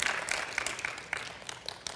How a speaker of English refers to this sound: I love it. Yes, you can clap on that.